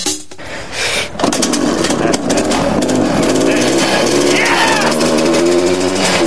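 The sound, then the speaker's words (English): A small snowmobile engine with a CVT revs loudly, its buzzing pitch climbing after a brief quieter start and then holding in a steady, rattling roar to the end. “They'll still use the snowmobile engine and CVT, but they'll have to create a whole new drive system.”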